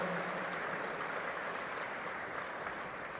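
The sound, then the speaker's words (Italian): Sustained applause from a large crowd, a dense steady wash of clapping that holds at an even, fairly loud level throughout without pauses. “Un applauso a tutti insieme, così poi sono ancora tante le voci, prendete posto.”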